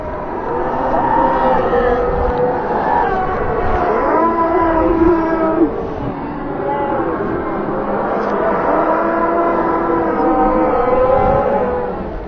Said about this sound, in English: The dog stops and looks to you once again. Before you stands Black Shuck, and you are about to die. He lets out a deadly, ear-splitting howl that sounds like all the souls in hell crying out in one accord.